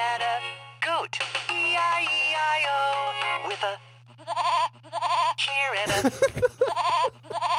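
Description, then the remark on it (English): An artificial, computer-generated goat bleat: one long wavering, buzzy cry, then a run of shorter choppy bleats, loud over a steady low electronic hum. “Robots don't know what real goats are.”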